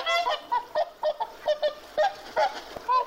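swan honking

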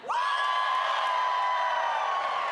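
audience cheering loudly

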